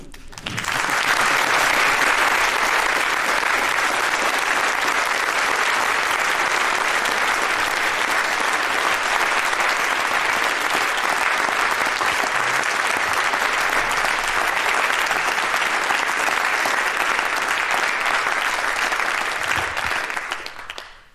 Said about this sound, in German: Wenn keiner aufsteht, keine Fragen sind, kann ich mich an der Stelle erstmal ganz herzlich bedanken. Das ist nochmal dann eure Chance, einen viel dickeren Applaus zu machen.